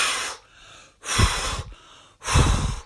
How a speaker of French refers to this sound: Soufflez trois fois.